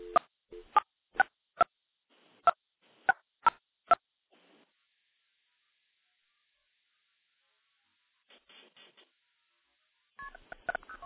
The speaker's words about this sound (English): There's a dial tone. We'll dial 9 for an outside line. Now we're going to dial into my Project MF box.